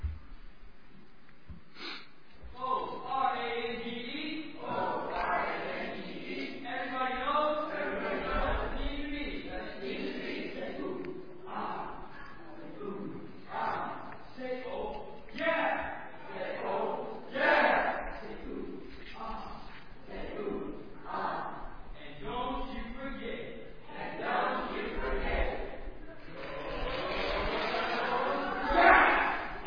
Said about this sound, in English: This time, orange team, come on up. Give us a cheer. You do the same one. You can do a different one.